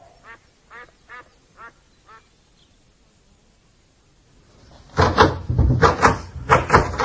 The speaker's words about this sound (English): Not that door. It doesn't open. You want the next one to the left to get into the drawing room.